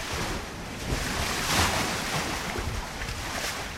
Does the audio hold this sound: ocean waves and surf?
yes